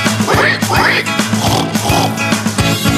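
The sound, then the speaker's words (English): A few snorting oink-like grunts, voiced imitations of a wild boar in a children's song about a boar covered in mud, ride over bouncy music with a steady, thumping beat and sustained tones. “If you see it near you, you oink and run up first.”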